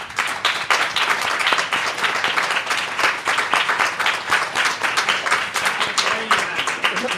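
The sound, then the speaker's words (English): Sustained applause from an audience welcoming a performer onto the stage, many hands clapping in a dense, steady patter that stays loud throughout with slight swells, no single voice standing out. “You can stop clapping.”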